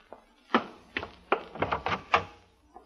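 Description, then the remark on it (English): A door opens with a quick run of wooden clunks and rattles, about half a dozen sharp hits in an uneven rhythm, moderately loud with no voices. “Open the door and I'll be right in.”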